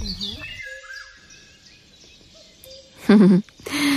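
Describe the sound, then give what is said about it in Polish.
Thin, high whistled notes from a tit singing, drawn out and fairly faint, followed near the end by a brief louder burst of voice. “Tak, drogą eliminacji próbowaliśmy zgadnąć, o jakie sikory może chodzić.”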